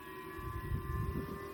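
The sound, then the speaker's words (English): Air raid sirens wail in South Korea in a steady, sustained drone with a low rumbling undertone, without any talking. “Sirens going off in South Korea.”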